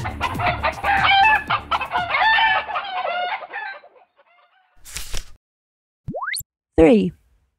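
A dense flurry of chickens clucking and squawking for several seconds, then fading, followed by a few short, sharp calls and a brief rooster-like crow, fairly loud.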